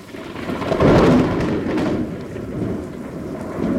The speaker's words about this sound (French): Ça, vous l'avez vécu dans votre cabane, hein, des orages, le tonnerre qui gronde, la pluie qui martèle les feuilles autour de vous. Comment on vit un orage à 6 mètres de haut, perché dans une petite cabane, dans un chêne?